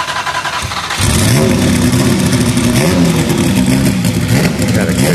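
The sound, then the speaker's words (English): A turbocharged V6 race car engine with one big turbo, in a car without its bodywork, barks to life as it is fired up after a second of quieter rumble, then revs loudly and continuously with rising and falling pitch, dominant. “And a nice V6 in there with a turbo, one big turbo.”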